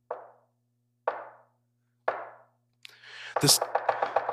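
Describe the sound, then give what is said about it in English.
Three loud, evenly spaced knocks on a door, about a second apart, followed by a burst of quick rattling clatter. No one speaks. “And then a knock rang out.”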